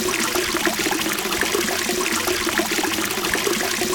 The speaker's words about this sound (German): Das Wasser brauset.